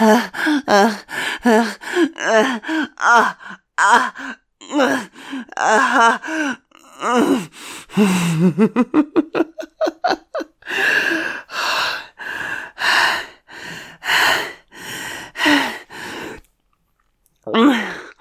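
Heavy, rhythmic breathing in and out, loud, with sharp gasping inhales and groaning exhales that speed up into quick panting bursts before slowing again, as one person leads another to match their breathing.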